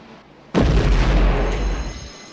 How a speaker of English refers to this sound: Glass doors at the end of the walkway shatter from the explosion.